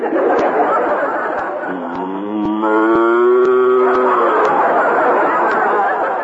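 A cow lets out one long, loud, drawn-out moo, rising and sustained for a couple of seconds, over a busy, noisy background with faint murmuring and occasional clicks.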